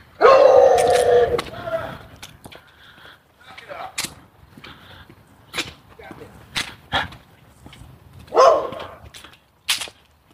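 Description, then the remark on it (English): A dog lets out a loud, drawn-out bark, followed by scattered clicks and shuffling, then a second sharp bark near the end. “It's the first time I've seen somebody bark back at the dog.”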